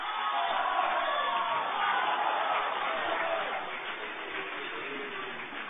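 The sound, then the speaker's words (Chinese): A large audience at the Spring Festival Gala applauds and cheers to welcome 60 crosstalk performers, a dense, sustained wash of clapping and crowd noise that stays loud and steady from start to finish. “我们用最热烈的掌声邀请我们的60位演员与大家见面，有请。”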